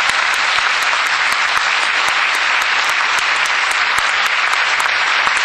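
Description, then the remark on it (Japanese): Steady, dense applause from an audience for the lecturers after a talk, many hands clapping continuously at an even loudness throughout, with no voices standing out above it. “素晴らしいお話を聞いている中先生方にもう一度大きな拍手をお願いします。”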